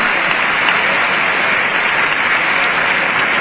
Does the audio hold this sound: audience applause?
yes